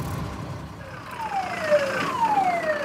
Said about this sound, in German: Also gerade fährt hier ein großes Feuerwehrfahrzeug nach hinten, rückwärts. Deswegen gibt es dieses Geräusch, großes Gerenne hier überall.